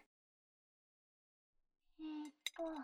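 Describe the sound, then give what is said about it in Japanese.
Dishes and cutlery clink and clatter as they are gathered up and cleared away after a meal, with a couple of short rattling bursts around one sharp ringing clink, after a quiet stretch. “食器片付けちゃうから、あなたは先に寝室に行っててね。”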